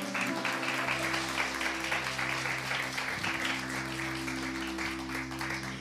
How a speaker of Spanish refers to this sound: Un aplauso para Dios en esta noche.